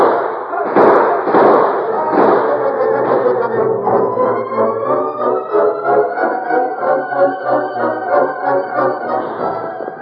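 A quick volley of sharp gunshots bursts out in the opening seconds, then gives way to a sustained, wavering tonal sound that carries on steadily to the end.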